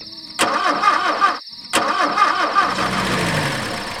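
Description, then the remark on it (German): A red car's engine cranks over and over without catching, stops briefly, then cranks again in a second failed attempt, the starter's rhythmic churning loud with no voices; it will not start because mice have bitten through some of its cables. “Er konnte nicht losfahren, das Auto sprang nicht an.”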